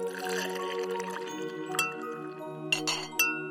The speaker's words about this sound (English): I'm mixing the batter. It's looking good.